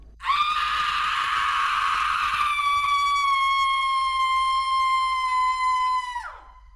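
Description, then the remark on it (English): A single long, piercing, loud creature scream from a black figure about 7 feet tall among trees, starting harsh and raspy before settling into a steady shrill wail that sags and cuts off after about six seconds. “I swear, I saw this black figure about 7 feet tall step out from a few trees in front of me, and started with that same scream as it bent down and began to crawl towards us.”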